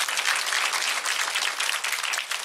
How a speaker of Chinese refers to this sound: 拍手把荣耀归给他吧，大声点，大声点。